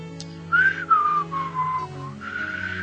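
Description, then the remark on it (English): Someone whistles a short, wavering tune of a few sliding notes that drift downward, fairly clear, over a steady low background hum. “Well, if you're whistling, I want to know who you were in the bed with.”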